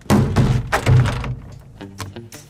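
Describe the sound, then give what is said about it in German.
A door thumps shut with a few heavy knocks, then lighter clicks and rattles follow as the door is locked with a bicycle lock and the key is pulled out, with no talking. “Ich schließe die Tür zu, damit wir für immer zusammen in unserem Versteck bleiben.”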